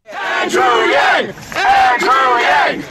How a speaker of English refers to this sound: Enthusiastic supporters of Andrew Yang cheer as he arrives at a park in the Bronx area of New York City.